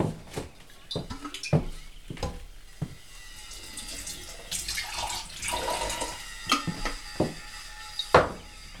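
Clinks and taps of a bottle and glass, then a few seconds of mineral water poured into a glass with a fizzy splash, followed by more sharp glassy knocks.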